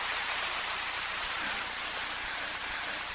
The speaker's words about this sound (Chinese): 怎么鼓掌声音一点都不响？